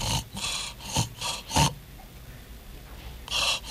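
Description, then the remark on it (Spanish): A person imitates a child snoring: four rough, snorting breaths in a quick rhythm, then about a second and a half of silence as the breathing stops, as in sleep apnea, before another noisy breath starts. “Siempre por ahí hago el ejemplo a los pacientes y le digo, mire, su hijo está roncando y si hace esto tiene que tener algún tipo de cuidado.”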